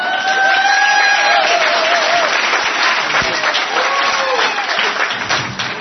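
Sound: audience applause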